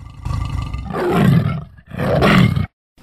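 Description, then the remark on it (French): A tiger roars twice, two loud, rough, rumbling bursts separated by a brief pause, then silence. No voices are present. “Parce que j'aime bien les tigres.”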